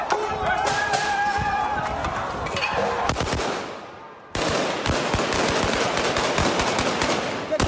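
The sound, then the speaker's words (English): Rapid bursts of police gunfire crackle loudly over a dense, chaotic din of outdoor crowd noise, with a brief dip before the shooting and clamor surge back, during street protests against the detention of legislator Robert Kyagulanyi, with youths blocking roads and setting tires alight and police also firing tear gas. “Police responded with gunfire and tear gas.”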